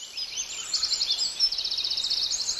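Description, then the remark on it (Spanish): A small bird sings a bright, rapid series of high chirps and trills, steady for a few seconds, with no voices present. “Donde nosotros estamos, hay por tiempos que suena un pajarito con un canto muy bonito.”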